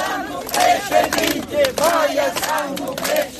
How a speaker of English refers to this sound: Maya Sandu ended her re-election campaign among close supporters, cheered and clapped all the way through the streets with shouts of president.